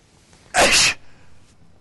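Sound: sneeze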